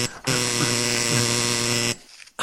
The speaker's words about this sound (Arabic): حتى ضربها للجرس غير طبيعي. تضرب الجرس بجنون. سوف أذهب لأفتح الباب بسرعة قبل أن يتعطل الجرس.